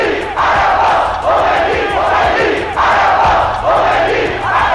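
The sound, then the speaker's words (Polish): A huge, loud crowd of Iranians chants in rhythmic surging waves, roughly one swell per second, with massed voices shouting in unison, dense, with no pauses, in a frenzy at Ayatollah Khomeini's first steps back on Iranian soil after years of exile. “Irańczyków ogarnął prawdziwy szał.”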